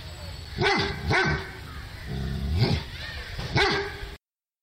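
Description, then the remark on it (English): A dog barks about four times at uneven intervals, loud, with a slight whining edge to some barks; there's a quiet hiss in the background and no talking. “If you are listening to this one and have a dog anywhere nearby, you might want to get their attention. Here's some help.”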